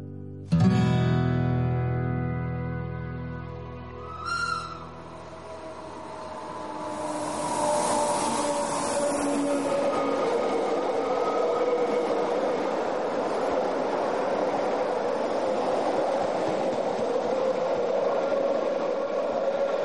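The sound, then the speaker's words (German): An MOB passenger train running between Montreux and Lenk in Switzerland rolls along the rails, opening with a loud, sustained horn blast before settling into a steady, continuous rumble of wheels and carriages with no voices. “ich fahre den Zug seit 42 Jahren von Montreux nach Lenk.”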